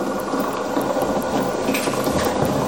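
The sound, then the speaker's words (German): A small motor ticks along in slow, slightly uneven steps, each one a faint mechanical click over a steady whirring hum, moderately loud. “Der Motor macht sehr, sehr langsame Schritte und hat nicht so eine gleichmäßige Bewegung, sondern macht eben einen Schritt für Schritt für Schritt für Schritt.”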